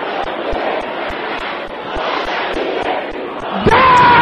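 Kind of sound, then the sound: crowd, audience shouting loudly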